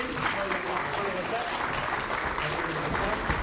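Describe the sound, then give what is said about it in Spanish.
Sustained applause from a crowd, a dense, steady wash of many hands clapping at an even loudness for several seconds, with no voices rising above it. “Y el aplauso también para Patri Iglesias por habernos contado también este tipo de vivencias que tanto nos gustan cada día.”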